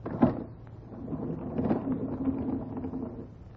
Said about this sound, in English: I think if we open the door, we will be able to see.